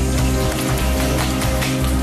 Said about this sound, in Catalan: Sentiu aquest soroll? Heu sentit aquest soroll? Ho he parat aquí perquè és un element visual que porta molt de valor al document. Aquest soroll és una ampolla d'aigua que Manu Tenorio té a la mà